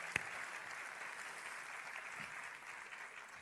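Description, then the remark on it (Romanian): Steady audience applause at a special evening gathering, for the people being honoured, a dense wash of many hands clapping at an even level throughout, with one sharper clap standing out near the start. No one speaks. “Oameni, da, merită să aplaudăm.”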